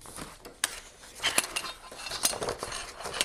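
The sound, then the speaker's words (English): Paper being clamped into an index-card-sized braille slate used with a stylus: rustling of a sheet mixed with several sharp metallic clicks and snaps as the hinged frame closes, with no talking. “Clamping in the piece of paper.”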